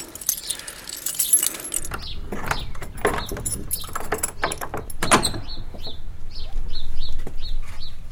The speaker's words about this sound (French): Ton vieux trousseau de clé, avant que tu changes la serrure. Il y en a peut-être une de la chapelle.